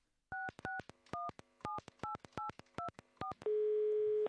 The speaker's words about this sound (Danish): Vi ringer ham nu op.